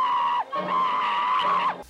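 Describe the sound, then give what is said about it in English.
A woman's high-pitched scream dubbed into a film, loud: a short cry, a brief break, then a longer held wail at an oddly steady pitch that sags at the end. No talking. “I almost thought it was like the director trying to put on his best girly scream, because it does not sound normal.”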